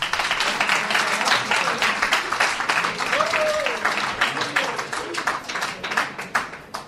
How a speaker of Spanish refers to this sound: Gracias a él, todo esto posible. Un fuerte aplauso para